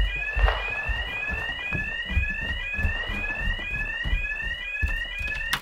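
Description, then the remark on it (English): A house alarm blares on and on, repeating a quick rising electronic whoop roughly twice a second, loud and shrill over low rumbling background noise, with no one speaking. “It's the alarm.”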